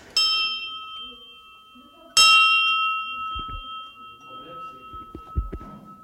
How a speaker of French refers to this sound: Il y a un certain nombre de clochers, en proportion non négligeable, où les cloches sont fausses. Il y a un certain nombre de clochers où les cloches ont un son rugueux qui n'est pas harmonieux.